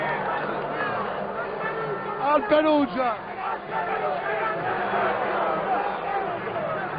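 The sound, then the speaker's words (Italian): A large stadium crowd at the Olimpico, by the Lazio curve, applauds Juve and roars in a steady, dense wash of noise, while a man talks loudly over it and briefly rises above the din. “E c'è un applauso alla Juve,”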